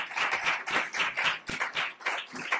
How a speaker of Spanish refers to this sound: Yo de verdad os pido a todos un nuevo aplauso porque estoy encantadísima.